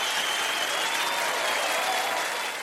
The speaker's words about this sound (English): Okay, so the applause you're hearing is fake, y'all. It's not real. But we did perform a live show on April 15th in front of a live audience, but it was a Zoom audience.